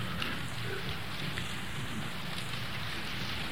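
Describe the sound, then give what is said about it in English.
A dense, steady rustle of many paper pages being turned at once by an audience following a handout, a soft crackling wash that holds an even level throughout with no voices over it. “Whoever started turning the page, thank you, because it's a good time to start, and that got everybody else turning too.”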